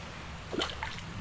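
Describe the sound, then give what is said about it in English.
A coin thrown by hand drops into a body of water below, making a small plop with a brief ringing splash, followed by a fainter second splash as a second coin lands, over a low, steady background rumble. “That's two coins that I've just thrown in there.”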